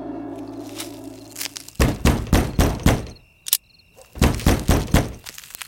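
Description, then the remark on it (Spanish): Loud, heavy knocking on a door at a late hour comes in two urgent bursts of several rapid thuds each, split by a short pause, over a faint background hum with a thin insect-like chirp. “Pero, ¿quién se atreve a llamar a estas horas?”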